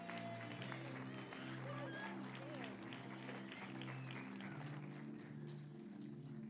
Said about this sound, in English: Can you give the families a hand clap this morning for coming?